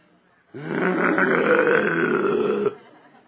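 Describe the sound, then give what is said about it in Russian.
A person imitates a mother dog with puppies growling at an approaching stranger, one sustained, rough, low rumble lasting about two seconds, loud, starting abruptly and cutting off sharply. “вы видели, когда вот лежит собачка, да, и у нее щенята? И когда подходит чужой, вы видели, что делает мама?”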